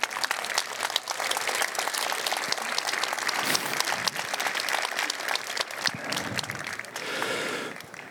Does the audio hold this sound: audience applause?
yes